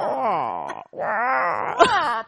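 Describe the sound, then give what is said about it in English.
People mimic crow caws with their voices into microphones: two long, strained cries that bend and waver in pitch, followed by a short harsh squawk. The calls are loud and stand alone without any talking. “We're just making crow noises into the mics now.”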